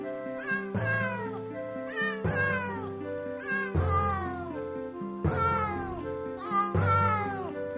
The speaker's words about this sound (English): supposed to be a cat? They're torturing it.